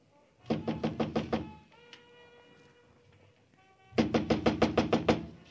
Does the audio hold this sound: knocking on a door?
yes